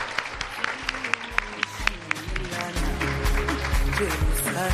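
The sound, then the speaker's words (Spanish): Scattered, sharp handclaps at first, then a fuller, sustained wash of audience applause for the Colegio Santa Ana at a school contest final, with a low crowd murmur beneath it, growing louder toward the end. “pues un fuerte aplauso a todo el Colegio Santa Ana y por supuesto también a las otras personas que han participado en el concurso”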